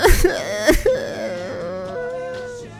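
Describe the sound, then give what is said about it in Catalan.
A voice imitates a little bear crying inconsolably, with two short sobbing gasps followed by a long, wavering, high-pitched wail that trails off. No words are spoken. “I finalment l'osset més petit va tornar a dir, plorant desconsolat: Algú s'ha assegut a la meva cadira i l'ha trencat.”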